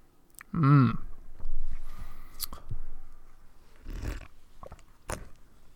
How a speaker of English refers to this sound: That sounds like you're taking a sip. I've taken a sip.